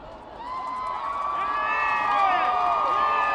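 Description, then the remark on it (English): A large crowd on 125th Street in Harlem cheers loudly and continuously as a Jumbotron shows President Obama emerging for the first time, with overlapping high-pitched shouts and whoops rising over a dense roar of voices that swells toward the end. “That was the sound from the crowd on 125th Street when the Jumbotron showed President Obama emerging for the first time.”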